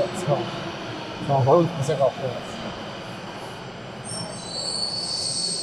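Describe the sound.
A metro train rumbles steadily, then its wheels let out a shrill, sustained metallic squeal over the final seconds. Brief muffled voices surface near the start.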